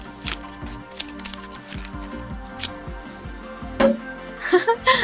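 Foil and packaging crinkle and rustle, then a single sharp champagne cork pop rings out, followed by a short burst of fizzing hiss as the champagne bottle opens.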